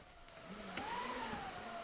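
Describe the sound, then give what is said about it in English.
A steady theatrical wind effect made by a theatre wind machine for a stage production at the Bristol Old Vic: a broad whooshing rush with a faint whistling tone that slowly rises and falls in pitch, moderately loud and continuous, with no voices. “So let's start with a little bit of wind.”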